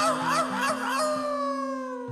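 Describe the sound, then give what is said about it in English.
A voice mimics a coyote howling at the moon, with rising and falling wavering yowls that settle into a long, fading held note over a steady, sustained musical drone. “and one little coyote was howling at the moon.”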